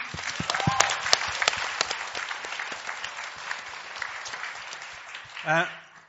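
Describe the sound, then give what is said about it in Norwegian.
An audience breaks into steady applause, many hands clapping in a dense wash that holds for several seconds, with a brief voice rising near the end; applauding a UK appeal court's temporary halt to a new runway at Heathrow. “Skal vi klappe litt for det?”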